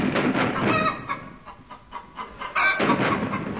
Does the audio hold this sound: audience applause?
no